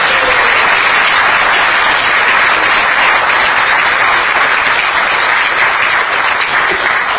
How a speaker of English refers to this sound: These are the four organizations that we've been supporting for the last 2 years and hope to continue supporting. So let's have a round of applause for the four.